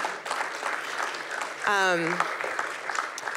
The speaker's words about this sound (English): does someone want to clap? It does feel like you should clap, right?